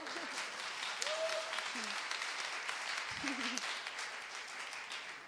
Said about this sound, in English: Give her a hand clap. She's wonderful.